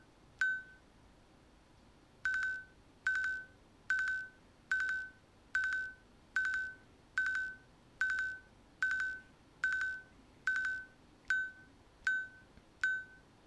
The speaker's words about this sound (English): So what it's done in this case, it's done groups of 5, but it's counted up. So that's why it was going that repeated beep